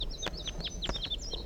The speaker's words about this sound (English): So recording, I'm on my way down the hill and I've met up with crossbills, perhaps the same birds as before. Yeah, looks that way.